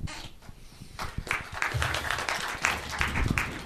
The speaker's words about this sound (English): and thanks for clapping it before I've done anything. It saves you doing it at the end and probably wouldn't want to.